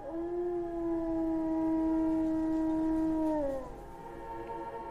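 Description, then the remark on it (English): A single long, steady wolf howl holds one pitch for over three seconds, then slides downward and fades, heard clearly against a faint low background rumble with no voices. “One distinctive Irish mammal whose power permeates our ancient folklore is the wolf.”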